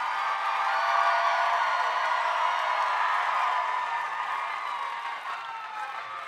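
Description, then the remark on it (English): A crowd in Seattle applauds and cheers, a dense, steady wash of clapping with voices rising through it. It holds fairly loud for the whole stretch and fades slightly toward the end, with no speech over it. “I missed your applause.”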